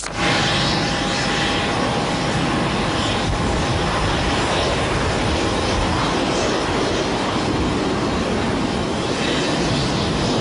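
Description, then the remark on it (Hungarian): A loud airplane roars overhead near Ferihegy airport, its broad engine rumble filling the whole stretch with a steady drone that swells and lingers, with no voices. “A környéken lakókkal is egyeztetett terv szerint például korlátozzák a lassabb gépek fel- és leszállását.”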